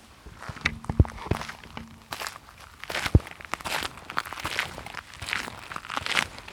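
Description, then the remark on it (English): Brisk footsteps crunch along at a quick, steady pace through the cold night air, each step a sharp gritty impact, moderately loud with no voices, and a faint low hum lingers briefly near the start. “He steps swiftly through the cold night air”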